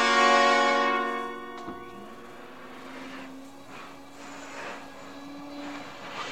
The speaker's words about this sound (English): Turn that vacuum cleaner off for a minute, will you, and come over here.